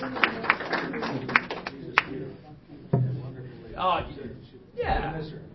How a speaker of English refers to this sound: Also, we have witnesses. Some of the officers are here. They clap for her.